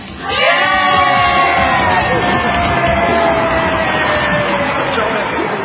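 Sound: crowd cheering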